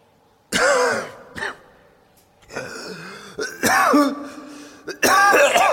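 In pure darkness, a man coughs himself awake, coughing and clearing his throat in several harsh, rasping bursts, loud, with short pauses and a groggy, strained quality between them.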